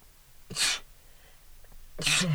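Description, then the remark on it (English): Two sharp sneezes about a second and a half apart, each a sudden bright burst of breathy noise, fairly loud, with quiet stillness between them. “Oh, sorry, I had to sneeze.”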